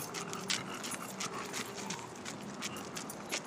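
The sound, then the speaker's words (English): Steady clip-clop of hooves walking at a moderate pace, a series of light, repeated knocks over a rustling background with no talking. “The sound of the walking. It's great. Yeah. Oh, it sounds like a pig.”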